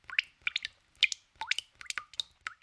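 Water drips in a quick, steady series of bright plinks and plops, several drops landing roughly every half second with no voices.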